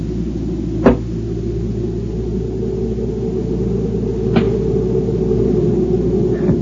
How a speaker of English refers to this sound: I found out about the rifle shot, just an echo from the canyon if you throw a rock against the cabin. See, you can hear it when I throw.